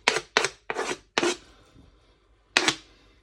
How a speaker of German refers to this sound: Nachdem ich die jetzt hier fertig klein geschnitten habe, kommen sie natürlich hier gleich in die Pfanne hinein.